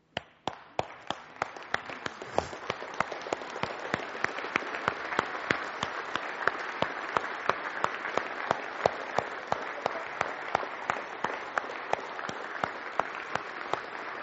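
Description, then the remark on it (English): A room full of people at a church service stands and breaks into sustained applause for the women present, dense overlapping claps building quickly and continuing steadily at moderate loudness for the whole stretch, with no talking. “Men, would you join me in standing and giving an applause to the women in this room?”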